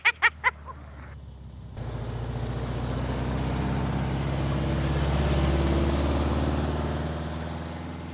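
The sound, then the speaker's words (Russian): After three quick tonal beeps, a steady engine rumble swells as four or five cars drive up and arrive, peaking loudly before easing off as they come to a stop. “А кто там машина первый-то едет? О, 4-5 машин.”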